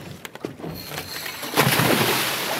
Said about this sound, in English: Just off the Monterey Peninsula, a boat sways in the ocean.